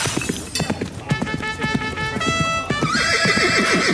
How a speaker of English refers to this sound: What the hell was that? A horse? They're extinct.